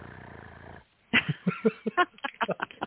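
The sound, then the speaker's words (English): A person imitates a cat's purr with a brief, steady, rumbling buzz for the Santa Rosa County, Florida Animal Shelter Report, which stops abruptly; after a short pause someone starts talking. “I'm just going to make purring noises here.”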